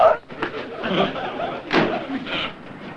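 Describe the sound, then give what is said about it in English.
A door slams shut with a heavy thud amid a busy, cluttered background of movement and indistinct voices, followed by further shuffling noise. “The door, please.”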